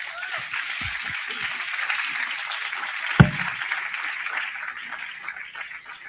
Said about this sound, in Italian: Grazie Gesù, e accogliamolo con un grande applauso.